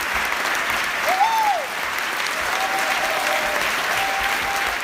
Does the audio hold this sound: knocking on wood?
no